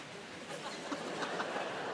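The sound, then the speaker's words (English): A person imitates a dog panting with soft, breathy huffs repeated in a loose rhythm. The puffs are quiet and noisy, with no words spoken. “Can you do dogs panting?”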